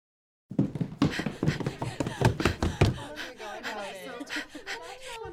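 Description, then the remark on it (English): A woman pants hard and fast after rushing into a barracks, a burst of sharp, breathy gasps, easing into quicker, lighter breaths toward the end. “Colleen rushed into the barracks, panting, calling out two glorious words.”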